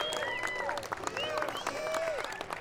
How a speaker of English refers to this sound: And while we're at it, would y'all give a round of applause for our sound guy, Jim, over here, putting this whole thing together?